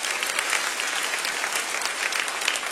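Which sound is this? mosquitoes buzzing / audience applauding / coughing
audience applauding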